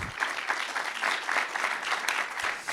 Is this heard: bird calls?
no